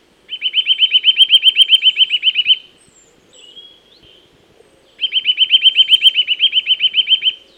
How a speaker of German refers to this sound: Hier hört ihr den Gesang eines Kleibers.